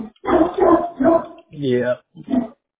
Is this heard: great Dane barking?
yes